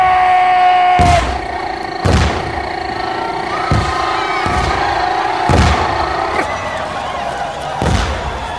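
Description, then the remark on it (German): Half a dozen heavy cannon blasts, fired on the order of the Swedish General Torsten Torstenson, boom out at irregular intervals, each a sharp loud burst fading quickly, over a steady droning, tonal background. “Feuert die Kanonen! Feuer!”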